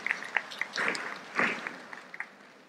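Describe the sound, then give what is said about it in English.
Scattered audience applause, soft and uneven, with sharp individual claps and two brief swells of denser clapping before it thins out. No one speaks. “Engaging from the applause of the audience, I think many agree with you, subhanAllah.”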